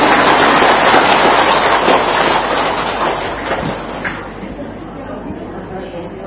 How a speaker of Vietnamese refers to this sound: Có mâu thuẫn không? Không, vậy cho tràng pháo tay đi.